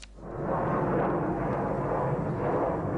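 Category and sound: vehicle, airplanes flying overhead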